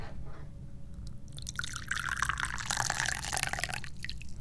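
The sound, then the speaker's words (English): Tea is poured into a cup in one steady, trickling stream lasting a couple of seconds, its splashy gurgle rising slightly as the cup fills, over a low background hum. “I'd like to welcome you to the Dubious Goals Committee by pouring you some tea.”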